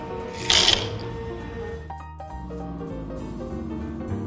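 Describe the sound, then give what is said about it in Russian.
Dry pasta is poured into a pot of boiled water while making soup, in a single quick, loud rattling clatter lasting a fraction of a second, with soft tonal background music continuing afterward. “Высыпаем макароны.”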